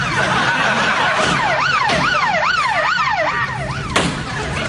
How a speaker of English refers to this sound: Well, police car.